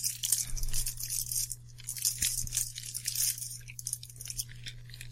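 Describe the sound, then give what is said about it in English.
Wet chewing and crunchy mouth sounds of a man eating a candy corn cupcake continue steadily for several seconds, with bursts of bright crackle over a low steady hum and no one speaking. “He's chewing.”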